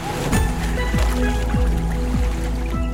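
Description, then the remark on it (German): Steady, loud rushing water with a quick rhythmic surge every half second or so, as a finned animal with a narrow body swims through the water at over 50 km/h, churning it. “Mit über 50 km/h rauscht unser Tier durchs Wasser.”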